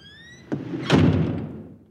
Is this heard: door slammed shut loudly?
yes